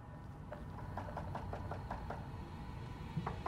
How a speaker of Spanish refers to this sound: Teníamos un guardia de seguridad que comenzó a golpear las puertas y notificar a los residentes de quejas por ruidos.